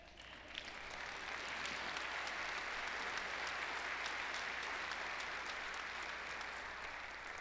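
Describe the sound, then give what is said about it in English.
An audience applauds steadily, a dense wash of clapping that swells within the first second and holds at an even, fairly loud level until the end, with no voices above it. “Don't applaud that.”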